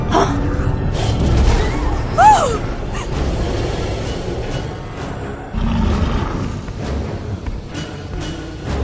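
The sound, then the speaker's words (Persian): A giant prehistoric crocodile, a Sarcosuchus, roars loudly, deep rumbling growls filling the whole stretch, with a brief shrill squeal early on and a heavier surge of roaring toward the end. “با اون چیزایی که توی موزه دیده بودیم و زد سارکوسوکس ها.”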